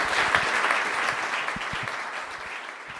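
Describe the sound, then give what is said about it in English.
An audience claps together in a dense, steady round of applause for Amory after a discussion at CoVenture, a co-working location on Main Street in Carbondale. The applause holds fairly loud for a few seconds, then slowly tapers, with no voices over it. “So let's give Amory a big round of applause.”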